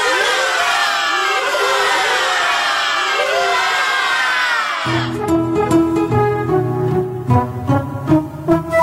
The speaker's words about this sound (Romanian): Aplauze urale!